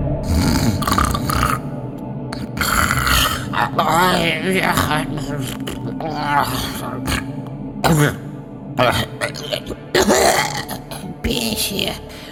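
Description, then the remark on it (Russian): Loud, rough snoring of an old woman asleep on the back seats of a bus, in the evening in the dark and rain, fills the stretch: throaty rasps, snorts and gurgling grunts come in uneven bursts with brief pauses, some ragged and pitched, others low and breathy. “С задних сидений послышался громкий храп.”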